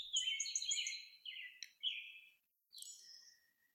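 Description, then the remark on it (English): Birds chirp and twitter in quick, high-pitched bursts, a few overlapping calls followed by a brief pause and another trill, clear with no voices. “So thank you for sharing these birds as we talk.”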